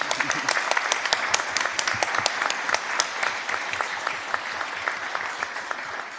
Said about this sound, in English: So those guys, literally, thank you so much. Yeah, round of applause. Yeah.